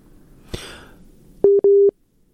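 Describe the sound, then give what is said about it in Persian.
A click or brief cough-like burst, then two loud, steady electronic beeps of a phone busy tone after a guest's phone call was cut off, the second held a bit longer, with no talking. “با ما وصل هستن از طریق تلفن، فکر میکنم که تماسشان قطع شده.”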